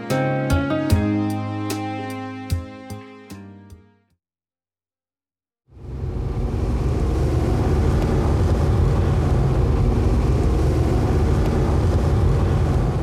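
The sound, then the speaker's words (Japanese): A short musical phrase fades into a brief silence, then a dense, steady wash of road traffic noise rumbles on without pause, like cars idling and creeping in a traffic jam near Dazaifu Tenmangu shrine in Fukuoka during the holiday outing season. “あー、やっぱり渋滞に捕まっちゃいました。”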